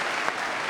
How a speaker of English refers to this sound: I'm not sure I like that applause.